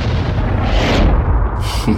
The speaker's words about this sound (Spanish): Tiempo después, quizás en el 55, desde la terraza de mi casa, escuché unos disparos aislados y lejanos. Y sonaban así.